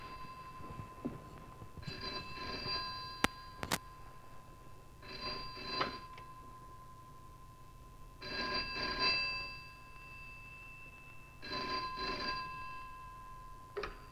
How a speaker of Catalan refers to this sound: i com el suspens es produeix amb la famosa trucada i a veure què passarà quan la Grace Kelly agafa el telèfon. Aquí tenim la famosíssima seqüència que encara té el seu què de Crimen Perfecto.